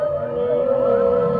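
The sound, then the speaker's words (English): Eerie calls of whale-like creatures with bulbous bodies floating past a ship: a steady, sustained tone with long gliding pitches sweeping upward beneath it, resonant and fairly loud throughout, with no voices. “Whale-like creatures with bulbous bodies float past the ship.”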